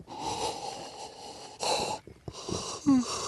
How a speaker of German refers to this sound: Gähnst du jetzt hier oder was? Sauerstoffmangel.